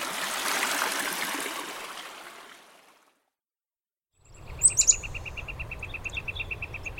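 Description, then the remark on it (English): A few quick, high chirps from a courting pair of chickadees in a shrubby thicket beside a trail ring out close by in the morning over the steady rush of a creek running full after a snowy year, with a faint buzzing trill underneath and no voices. “It's a thicket here with lots of shrubbery, and it's just alive with birdsong this morning. Courting chickadees here, right in front of us on the right of the trail.”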